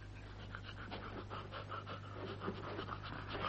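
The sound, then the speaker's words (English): An old dog named Nab pants steadily, quick rhythmic breaths repeating throughout over a low steady hum, with no voices present. “Now, what's that dog you've got there?”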